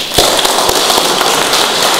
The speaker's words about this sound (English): I think he deserves a big clap.